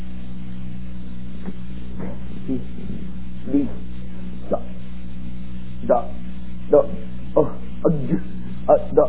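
A dog barks in short, muffled bursts over a steady low hum, sparse at first and then coming quicker and a bit louder toward the end.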